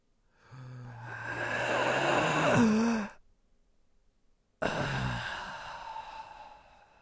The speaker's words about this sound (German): Dann sagt er so, pass auf, jetzt atme im Takt. Pass auf, komm, wir atmen jetzt mal alle zusammen. Beruhigung. Wir atmen jetzt mal alle zusammen.